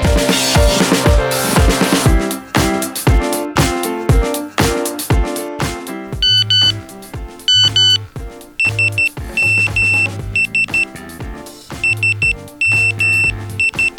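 A loud electronic mobile phone SMS notification tone plays alone, a rapid run of synthetic blips giving way to repeated sustained beeping chimes in a steady rhythm.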